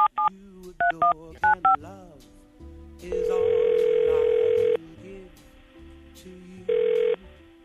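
A quick series of touch-tone beeps as a number is dialed to call the winner of a prize drawing, followed by two long electronic ringing tones on the line, separated by a pause, with faint background murmur underneath.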